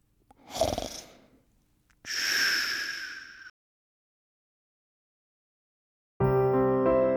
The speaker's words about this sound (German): Aber bei zwei schnarcht die Rüsselnase neben mir schon.